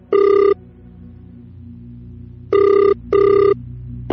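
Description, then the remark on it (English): After a number is dialed on a phone, the line rings out on the caller's end: a single buzzy ring tone, a pause, then a quick double ring, clear and steady over a low background hum. “She picks up her phone and dials.”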